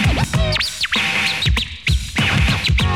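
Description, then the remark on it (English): Rapid turntable scratching by a DJ, with sharp, swooping pitch sweeps made to imitate chirping birdcalls, played loud over a thumping beat, with quick rhythmic cuts throughout. “Now make it sound like a bird.”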